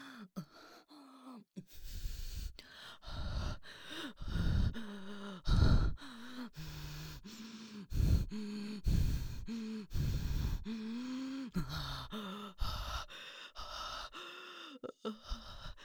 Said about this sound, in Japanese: 吐息激しくなる。